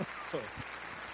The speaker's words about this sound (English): And here's your applause. All right.